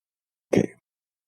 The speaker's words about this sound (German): Ja, wo du vom Rülpsen gesprochen hast, da ist mir doch etwas entglitten gerade.